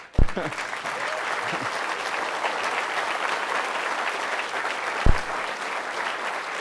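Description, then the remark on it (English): An audience applauds steadily at the end of a talk given by a Microsoft speaker, a dense, even wash of many hands clapping at a constant loud level, with a couple of sharper single claps standing out near the start and end. “And now you can applaud.”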